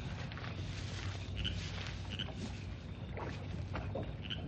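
A small boat being rowed out across a calm lake, with a steady wash of lapping water and a few brief creaks and splashes from the oars, with no voices.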